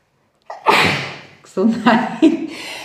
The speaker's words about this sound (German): Gesundheit. Das ist so, was darf nicht passieren, wenn man einen Podcast aufnimmt.